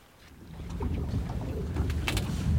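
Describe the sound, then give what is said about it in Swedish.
A boat motors across open water on Lake Hjälmaren in Sweden, by Nyckelgrundet, on a Thursday. Its steady engine rumble and splashing waves fill the scene, with faint bird calls and wind in the background. No one speaks. “Och så här lät det när vi var ute båda två med båt i torsdags.”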